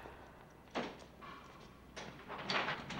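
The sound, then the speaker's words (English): Heavy cell doors slide open: one with a broad scraping rush, a faint steady whine behind it, followed by another louder grinding slide that swells and lingers with rattling texture. “The cell doors slide open.”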